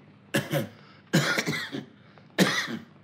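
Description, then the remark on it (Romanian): A man coughs three times in harsh bursts, each a rough, chesty hack with a short pause between them, loud with no talking. “De unde luăm bani să-mi cumpăr doctorii să nu mai tușesc?”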